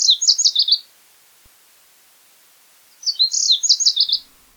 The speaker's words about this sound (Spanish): El delta es uno de los mejores reductos de sabana que quedan en el área de Portland, y en primavera percibo esa singularidad con el coro del Lazuli Bunting.